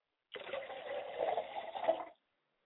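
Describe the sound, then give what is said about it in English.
Water is poured from a glass as a libation offering, in one steady splashing stream lasting about two seconds, then stops abruptly. Nothing else is audible. “I pour a glass of water for my mother, and I say, Ashe.”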